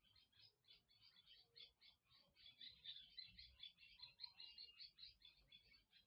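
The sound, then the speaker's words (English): Birds chirp steadily in a rapid, repeated series of high, bright calls that continue throughout, moderately loud, with no one talking. “I'm sorry, but there are some birds chirping.”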